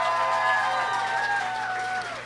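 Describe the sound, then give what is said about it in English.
The audience of a sold-out live show on Valentine's Day, applauding as couples who listen to the show together, breaks into applause mixed with sustained whoops and cheering voices, loud and steady for about two seconds before easing off slightly at the end. “No, there's a applaud if you're a couple that listens to this show together.”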